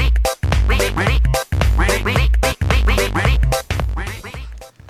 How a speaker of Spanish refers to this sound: El más amigo pato, un tío fenomenal.